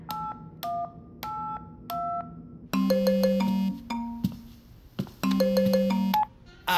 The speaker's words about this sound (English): What is that? Is that a phone? That's someone's phone.